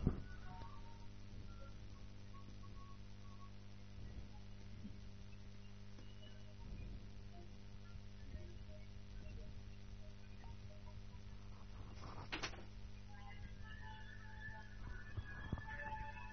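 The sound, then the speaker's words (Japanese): Faint, tinny telephone hold music plays steadily over a low hum, thin and narrow through a phone line, while a caller waits on hold during an inquiry to a customer service line, with no one talking. “なんなの、この保留音声はな。”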